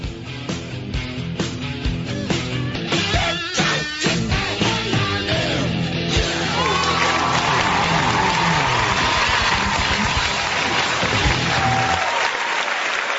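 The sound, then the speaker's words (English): An audience applauds in a dense, steady wash of clapping that holds at a fairly loud level for about twelve seconds before cutting off abruptly, with no talking. “Thank you very much for that lovely level of applause here.”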